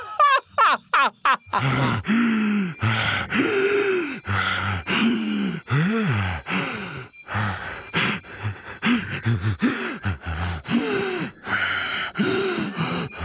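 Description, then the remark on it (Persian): Someone crying in long, wavering sobs and wails, opening with a few short, sharp gasping breaths, then drawn-out groaning cries rising and falling in pitch, loud and continuous with no speech. “چقدر جالب، احتمالاً صدای گریه یکی از بازنده هاست.”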